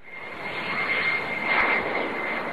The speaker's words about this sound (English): The careful choreography of a Cold War-era prisoner exchange began as an American charter plane touched down in Vienna. A Russian jet landed soon after. Sitting on the tarmac, wings tip to tip, the swap started and finished within 90 minutes